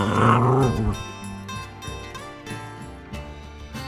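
A dog growls and grumbles up close, loudest in the opening moment and then continuing in a lower, uneven rumble with brief whiny edges. No one speaks.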